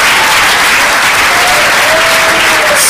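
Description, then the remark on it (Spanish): An audience applauds the Lord during a church sermon, in a steady, dense wash of clapping that fills the whole clip, loud and continuous with no pauses and no clear speech over it. “Démosle un aplauso al Señor porque es un Dios santo.”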